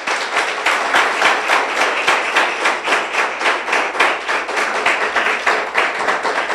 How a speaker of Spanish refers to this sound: Ahora sí, dile un aplauso al Señor.